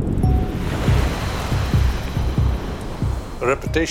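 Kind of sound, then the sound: nature, ocean waves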